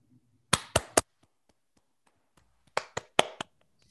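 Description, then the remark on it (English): Brief, scattered applause over a video call: two quick bursts of about three sharp, crisp claps each, separated by a short pause of near silence, with no one talking. “So let's all unmute to give him a round of applause.”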